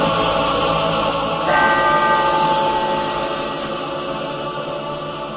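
church bells ringing

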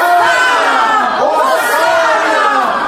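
crowd chatter

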